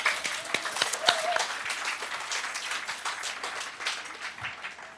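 An audience applauds the presenters steadily for several seconds, a dense wash of many hands clapping at a fairly even level, with a few sharper individual claps standing out early on.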